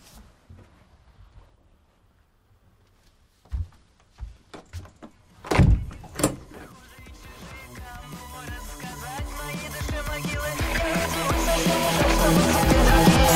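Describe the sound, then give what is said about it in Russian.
A few quiet clicks and rattles lead into a door being shut with a couple of solid thuds, then a broad wash of sound gradually swells louder. “Закроешь дверь?”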